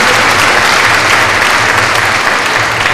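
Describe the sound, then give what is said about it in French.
A crowd at a Christian service applauds Jesus steadily, a dense wash of many hands clapping at a constant loud level for the full three seconds, with no voices rising above it. “Applaudissons-le encore une fois, c'est Jésus merveilleux.”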